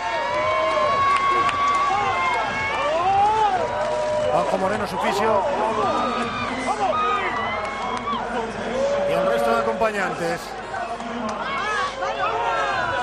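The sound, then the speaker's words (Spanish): Loud shouting and cheering from Carlos Alcaraz's team bench and Alcaraz himself after he wins the Indian Wells tennis title, dense overlapping voices and excited cries filling the whole stretch, while a commentator talks over it. “Esos son los gritos del banquillo de Carlos Alcaraz y del propio Carlos, que insisto, 19 añitos, ¿eh?”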